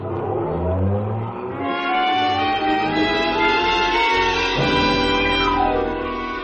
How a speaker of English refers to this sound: the easy 4-hour drive to the lodge, where you run your car out of sight behind some trees.